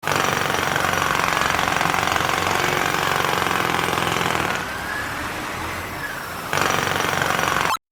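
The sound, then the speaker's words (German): A construction site jackhammer hammers loudly and continuously, eases off briefly to a lower rumble near the end, then kicks back in at full force. No voices. “Baustelle.”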